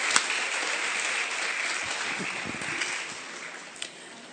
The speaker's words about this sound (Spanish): Vamos a darles un aplauso, mírenlo por allá hasta atrás, bien que se lo merece.